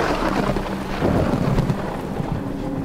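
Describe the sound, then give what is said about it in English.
Heavy rain hisses steadily on a stormy night in the old, narrow streets of Paris while a deep roll of thunder swells up midway, rumbling loud before settling back under the downpour; no voices. “The loud claps of thunder rattled among the high houses of the narrow streets.”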